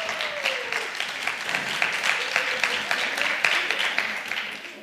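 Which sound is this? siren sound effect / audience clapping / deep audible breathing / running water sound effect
audience clapping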